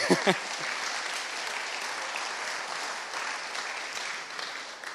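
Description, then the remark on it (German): Steady applause from a sizable audience fills the space, a dense wash of many hands clapping at an even level, with a brief bit of voice at the very start before the clapping takes over. “Komm, ihr dürft gerne klatschen.”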